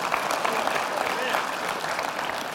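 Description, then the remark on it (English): Steady audience applause fills the space, a dense wash of many hands clapping at an even, sustained level throughout, with faint voices mixed into the crowd noise. “Yes, you clap for the King of Kings.”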